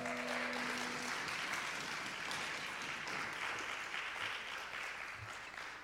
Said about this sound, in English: All right, why don't you give Jesus and yourselves a round of applause?